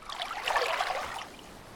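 Water trickles and burbles steadily with a soft, bubbly splashing texture, swelling slightly midway and then easing. No voices, just the continuous gentle flow on its own.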